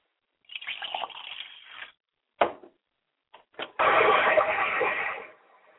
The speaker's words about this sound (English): Now, I pour libation for my mother's spirit, and I say, Ashe.